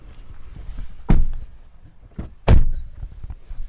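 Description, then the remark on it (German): People climb into an unmarked pest-control car at the 8 a.m. start of a shift: shuffling and rustling, then two heavy car door thumps about a second and a half apart, with quieter movement and clicks between and after them. “Wir steigen ins Auto.”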